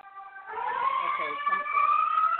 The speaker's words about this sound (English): it's the fire truck. It's the fire truck.